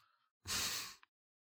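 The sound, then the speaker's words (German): A single heavy, snuffling breath pushed out loudly and very close, lasting about half a second, preceded by a softer faint snuffle, with no talking. “Das Schnaufen ist …, oder?”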